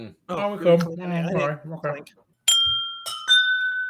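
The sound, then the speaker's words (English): Two glasses clink together twice, producing bright, sustained ringing tones that linger, right after a stretch of lively talking and laughter. “That was my best clink of the night.”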